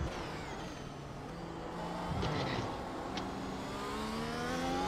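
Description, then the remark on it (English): A car engine revs and accelerates steadily during laps, its pitch climbing over several seconds, loud, with a brief hiss partway through and no voices. “I've never balloon-footed a car so bad in my life.”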